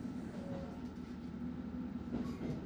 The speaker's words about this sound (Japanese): まもなく列車は横浜を過ぎた。